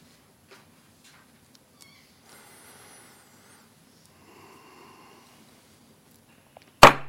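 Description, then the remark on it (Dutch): A single loud, sharp gavel strike rings out near the end, opening a council meeting, after a long stretch of near silence with only faint rustles and murmurs. “Hamerslag opent daarmee de vergadering.”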